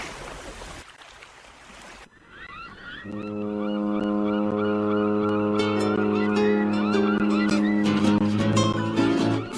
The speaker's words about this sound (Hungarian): Már közeledik a hajó, halljátok ti is a tenger zúgását s a hajó kürtjét.